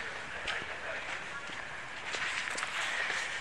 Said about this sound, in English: And I can hear, those are the footsteps I'd heard before